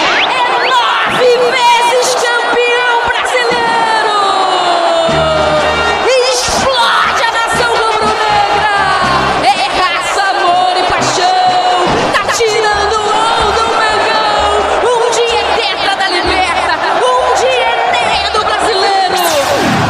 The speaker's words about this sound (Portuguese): Que festa espetacular da torcida rubro-negra.